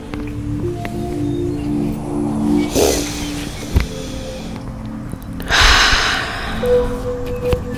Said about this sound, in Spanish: Ve respirando, tomando unas respiraciones siempre por la nariz profundas.